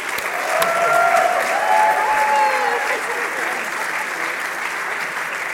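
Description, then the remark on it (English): A crowd claps steadily and loudly, a dense wash of hand claps that holds at an even level throughout, with a few faint whistles or cheers rising briefly above it early on. “They have all done an amazing job and deserve a big round of applause.”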